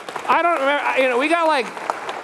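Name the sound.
round of applause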